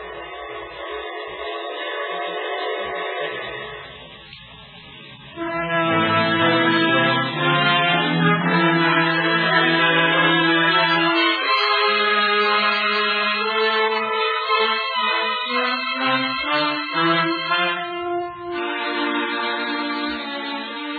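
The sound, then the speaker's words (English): The whistle of a night express train blows in long, sustained, chord-like blasts, rising in strength after a brief dip and holding steady and loud, with no voices present. “By the river's edge, George Weber heard the bell, the whistle, and the pounding wheel of the night express, with its triumphant promise of morning, new lands, and a shining city.”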